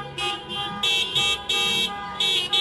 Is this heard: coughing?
no